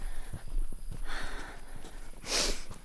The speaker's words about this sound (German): Ich mache noch ein paar Schritte bis vor zur Straße.